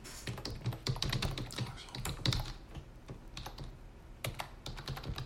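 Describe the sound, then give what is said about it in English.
Rapid, irregular clicking of keys on a computer keyboard, fairly loud, with short bursts and brief pauses as someone types steadily for several seconds. “I'm just typing this in.”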